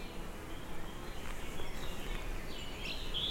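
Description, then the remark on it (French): Steady outdoor mountain woodland ambience above the Aspe valley in the Cagire massif, 1040 metres altitude, under a cloudy sky in intense heat, with a soft wash of background noise; faint bird calls chirp briefly toward the end, with no one talking. “La moyenne montagne, ici, c'est rempli d'oiseaux, d'arbres et de feuillage.”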